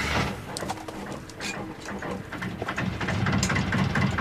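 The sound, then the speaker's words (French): A boat engine idles with a steady low rumble throughout, running smoothly like clockwork, while birds chirp and coo intermittently over the continuous mechanical hum. “Écoute, Yves dit qu'il tourne comme une horloge.”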